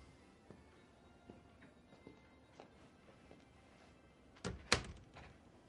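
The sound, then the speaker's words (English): A few soft, evenly spaced footsteps cross a quiet room, then a door swings shut with a solid thud and a brief rattle of the latch. “Close the door.”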